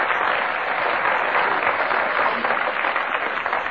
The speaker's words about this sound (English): 3 seconds he kept going, so we must applaud him for his arduous attempts.